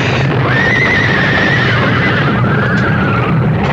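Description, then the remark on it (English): A panicked lead horse pulling a rig whinnies shrilly as it comes off a bridge, its long wavering neigh rising and falling over a steady, loud rumbling background, sounding agitated and frightened. “Coming off the bridge, the lead horse panicked, pulling the whole rig to the right, so that what was coming was inevitable.”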